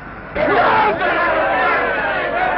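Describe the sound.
A large, happy crowd bursts into cheering after a brief quiet moment, a loud, dense wash of voices shouting and clamoring together that holds steady to the end.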